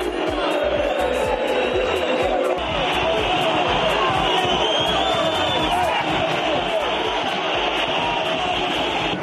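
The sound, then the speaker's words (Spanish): A large stadium crowd at El Sadar chants and shouts insults at Real Madrid player Vinicius, a dense, continuous roar of many voices that stays loud and steady throughout, with rhythmic bursts of thumping underneath. “Bueno, los oímos una y otra vez y nos siguen pareciendo igual de bochornosos los gritos que profirió parte del Sadar contra Vinicius.”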